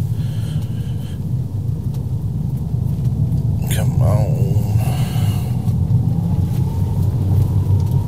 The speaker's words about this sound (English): It is a howling. I'll tell you what, it is howling wind right now.